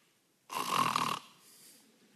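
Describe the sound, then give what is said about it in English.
A voice imitates the biblical Jonah snoring: one loud, rasping inhaled snort lasting under a second, followed by a softer, breathy exhale trailing off. “He was snoring.”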